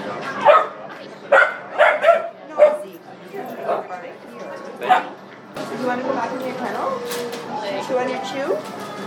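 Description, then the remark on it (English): A puppy yips and barks in a string of short, high-pitched bursts before a person starts talking over quieter background noise. “We just need to play with that puppy.”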